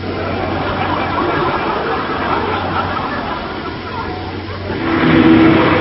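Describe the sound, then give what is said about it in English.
A car engine drones steadily, then surges louder near the end as it revs and accelerates while driving along a railway line ahead of an approaching train, with a faint murmur of voices underneath. “Faster, put your foot down. Faster!”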